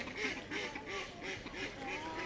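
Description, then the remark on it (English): A white duck quacks repeatedly in a steady run of nasal, raspy calls, about five or six in two seconds, moderately loud, with no one talking, by the river just outside the Maltings car park in Salisbury. “That's a nice white duck there.”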